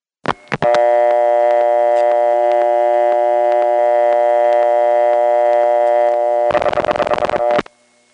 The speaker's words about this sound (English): After the last digit of the number is dialed, you can hear a purring noise, which is the sound of a special connector switch searching over all 50 lines, only at the end to find out there's nothing to do but give the caller a busy signal.